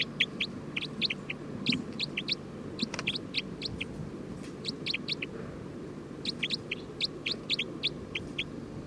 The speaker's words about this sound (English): Stop. Recording bird 306.